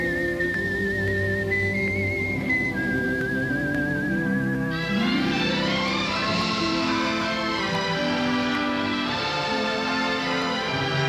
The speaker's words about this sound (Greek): μέσα στα χρόνια η μουσική του σφυρίγματος άλλαξε, πέρασε σε πλήρη συμφωνική εκδοχή.